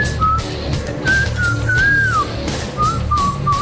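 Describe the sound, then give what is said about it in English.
Someone whistles a wandering, sliding melody in a few short phrases, clear, over a steady low rumble of background noise. No one speaks. “And Numbnuts over there is whistling Dixie.”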